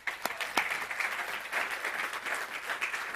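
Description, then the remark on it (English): An audience applauds steadily for the Lord during a sermon, a dense wash of many hands clapping together at moderate volume for a few seconds, with no one speaking over it. “I would just say, give the Lord a clap.”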